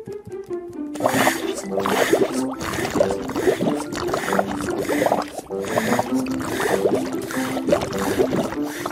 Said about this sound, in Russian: Ручной насос втягивает воду и по специальному шлангу отправляет ее в бочку.